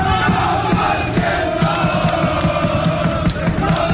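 A large crowd of Polish football fans chants loudly in unison, a dense, continuous roar of voices with a steady rhythmic pulse and occasional shouts rising above it.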